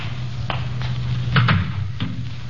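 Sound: door being closed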